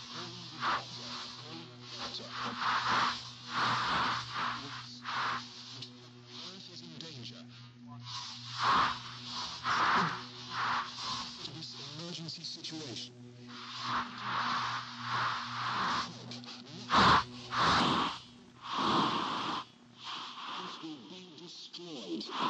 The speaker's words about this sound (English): Now add background conforming to known temporal distortion. Now add static.